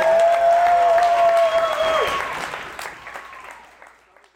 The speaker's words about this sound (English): Can we give Chloe a round of applause?